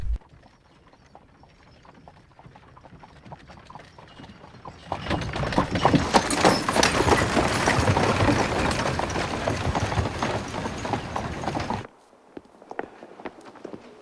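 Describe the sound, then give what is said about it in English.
Horses' hooves clip-clop steadily as horses pull a carriage into an imperial hunting lodge, quiet at first, then growing loud with a rumble of wheels for several seconds before stopping abruptly. “Inspector Uhl looks deep in thought as horses pull his carriage into the Imperial Hunting Lodge”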